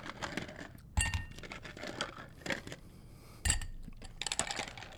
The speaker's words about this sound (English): We have a couple of rocks glasses here, so yeah. I'll give you some ice.